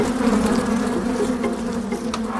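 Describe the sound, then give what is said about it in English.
A dense, continuous, loud buzzing of many bees erupting from an occupied hive after it was knocked by a thrown stone, with a steady droning hum and agitated swells as the swarm churns around, no voices present. “But the hive got knocked by the stone and erupted.”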